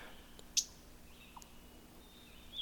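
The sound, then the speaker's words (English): A single sharp, husky chip call of a mourning warbler rings out, standing alone against a quiet outdoor background with faint bird sounds trailing later. “This bird that's chipping is actually a mourning warbler.”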